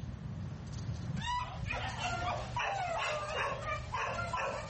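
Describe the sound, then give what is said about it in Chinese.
Several dogs abandoned by their owners bark and yelp over one another in a steady, overlapping chorus at an animal shelter in Taiwan, some high-pitched and whining, echoing above a low background rumble. “这些狗被主人遗弃，他们已经在收容所数周了，没人想收养他们。”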